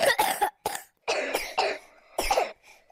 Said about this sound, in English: Two of the children have been complaining about a sore throat. They're coughing.